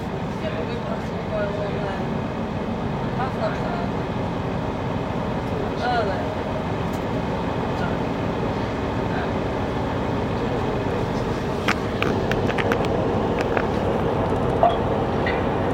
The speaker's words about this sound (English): We are arriving at Hull when this train terminates. Please remember to collect all your belongings when leaving the train.